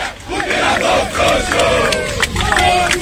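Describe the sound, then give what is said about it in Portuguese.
A large stadium crowd of Bahia fans at Arena Fonte Nova chants in unison before the match, many voices rising and falling together in a rhythmic, sung protest refrain that fills the space loudly and continuously. “Isso aí foi na Arena Fonte Nova, ainda no decorrer, antes do jogo, foi muita manifestação”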